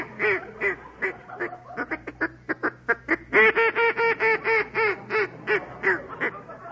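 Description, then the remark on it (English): A duck call is blown in a rapid series of nasal, reedy quacks, starting with scattered short blasts and building into a fast, loud, steady run of calls, clear. “Wrap out a duck call.”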